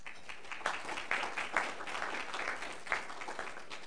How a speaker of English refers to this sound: This is great introduction and applause for doing hardly anything. That's the way I like it.